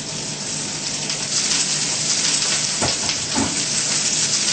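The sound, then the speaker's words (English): Cabbage sautéing in a pan gives a loud, steady, hissing sizzle throughout, with a couple of brief crackling bursts midway, as if the vegetables are being stirred. No one speaks. “And sauteed.”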